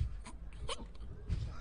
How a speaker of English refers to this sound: The hiccups.